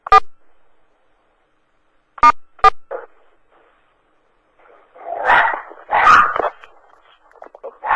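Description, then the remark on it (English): A dog barks in short sharp bursts, a few spaced-out yaps early on, then a louder cluster of rough barks and whiny yips near the end, with no talking. “everybody's got a dog.”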